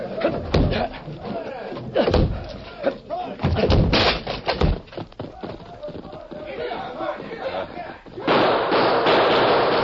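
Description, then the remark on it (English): Heavy, repeated crashing blows against a locked back door as it is broken down, loud, several splintering impacts over a few seconds, with agitated voices and commotion around them and a rushing noise near the end. “Locked. We'll have to break it. Stand back.”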